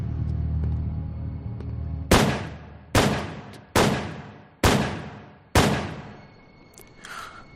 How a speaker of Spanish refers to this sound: La pareja bajó de la limusina y justo cuando iban a atravesar el arco de la entrada del edificio, un estruendo alertó a los vecinos de varias manzanas alrededor. John Lennon acababa de recibir 5 disparos a quemarropa por la espalda.